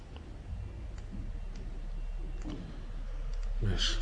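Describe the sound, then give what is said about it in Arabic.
Several quick, faint computer mouse clicks sound in an irregular run over a low background hum, with a sharper burst near the end. “الماوس ده وحش.”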